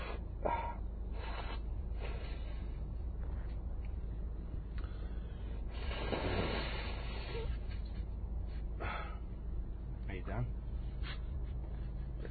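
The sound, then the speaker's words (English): A run of wet sniffles and snorts, with one longer, louder nose blow in the middle, all as breathy, noisy bursts over a steady low rumble. “We could make an audio, like a soundscape of me blowing my nose and sniffling.”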